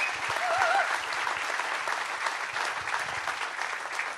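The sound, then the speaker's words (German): Steady audience applause, a dense wash of many hands clapping at a fairly even level for about four seconds, with a brief faint whistle early on and no talking over it. “Das ist Ihr Applaus”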